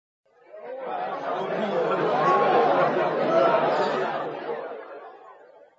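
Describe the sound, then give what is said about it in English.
A busy restaurant at lunchtime full of overlapping chatter, many voices talking at once in a steady, loud murmur that swells and fades, with a hint of laughter mixed in. “We went to a restaurant for lunch. The restaurant was noisy.”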